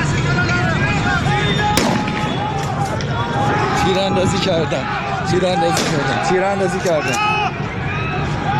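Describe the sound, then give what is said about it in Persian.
Two sharp, loud gunshots crack out a few seconds apart over a dense, agitated crowd of protesters shouting and chanting slogans throughout, at a street protest with security forces present. “در بعضی از ویدیوهایی که منتشر شده، همونطور که در این مورد شنیدیم، یه صدای تیراندازی به گوش میرسه و همینطور برخورد نیروهای امنیتی گزارش شده با معترضان، یعنی واکنش نشون دادن به اعتراض ها.”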